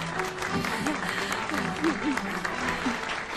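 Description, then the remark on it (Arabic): An audience claps steadily, a dense crackle of many hands filling the whole moment, with faint voices murmuring and calling out beneath the applause, as a woman is called up to the stage to receive a medal in an honouring ceremony. “صفقوا لها.”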